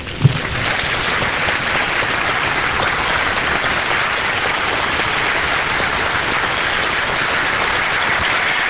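An audience applauds steadily for Christ Jesus during a Spanish-language sermon, a dense, even wash of clapping that holds at a constant loudness throughout without any voices rising above it.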